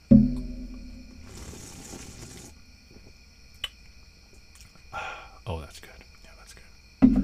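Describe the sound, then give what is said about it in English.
Someone sips beer: a soft airy slurp lasting about a second, then quiet pauses broken by faint clicks and a couple of short, muffled swallowing sounds. “So I got beer. That's pretty nice. Allow me to take a sip here, a little ASMR here.”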